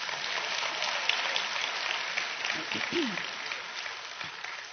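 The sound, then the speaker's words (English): An audience claps steadily, a dense crackling wash of many hands that holds even throughout, with a few brief low vocal sounds rising faintly under it partway through. “Give Him a clap.”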